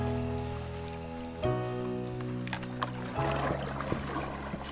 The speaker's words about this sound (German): Treideln heißt das im Paddlerjargon. Wir ziehen also unsere Kanus vorne an der angeknoteten Leine und schieben von hinten zusätzlich. Das Wasser ist nicht mal mehr knöcheltief und glasklar.